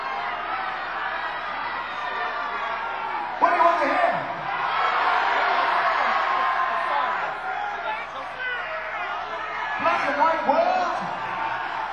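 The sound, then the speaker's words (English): An audience shouts out song suggestions over one another in a loud, dense jumble, with sharper individual yells and whoops bursting out near four and ten seconds. “We're going to do 3 or 4 of the ones you yelled out.”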